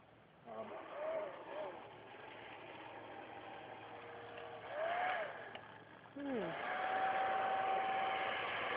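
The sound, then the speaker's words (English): A hair dryer roars steadily, used to heat away dew from the end of a scope, its motor whine dropping and then climbing back to a high, even pitch partway through, with brief voices speaking over the rushing air. “Do we still have the hair dryer?”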